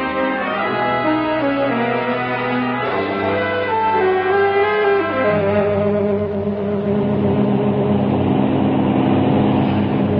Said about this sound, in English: Dawn, December the 25th. Have been airborne 8 hours. Altitude 20,000 feet. Magnificent day. Plane running very smoothly. Engines in perfect condition. No wind. Ideal weather for flying.